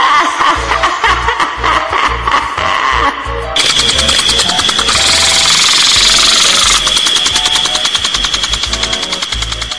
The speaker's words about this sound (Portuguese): É a lambreta.